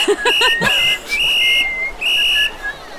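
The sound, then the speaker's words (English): A loud, shrill whistle blown in a series of sharp blasts, some short and some held, with a strong piercing pitch and brief gaps between them, dominant with no talking. “Okay, so I will judge that you regroup to the sound of a very loud whistle.”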